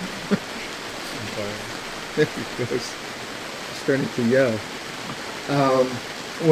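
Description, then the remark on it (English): Steady rain patters on a tent in a dense, unbroken hiss that fills the whole stretch, while a voice speaks in short bursts over it. “Because then that, you know, if you think about those times that, if I think about the times where I haven't had to compete with this damn tent raining.”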